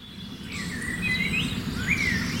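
Several birds sing at once in a dawn chorus at sunrise, overlapping whistled and warbling phrases over a steady low rumble of background noise. No one speaks.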